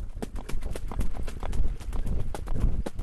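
Horse hooves clip-clop rapidly and steadily at a trotting gait, fairly loud, from a harness racing horse pulling a sulky around a track, with a low rumble underneath.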